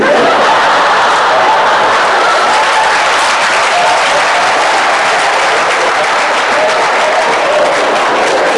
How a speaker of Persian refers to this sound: شما با این دست زدنتون پدر من رو نه خب البته خوبه دیگه